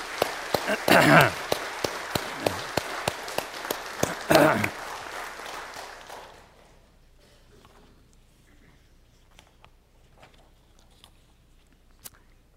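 An audience breaks into applause, a burst of many hands clapping at once that swells briefly, then thins out and fades after several seconds, leaving quiet with faint rustling.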